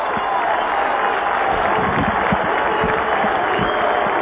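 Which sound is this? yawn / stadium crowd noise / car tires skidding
stadium crowd noise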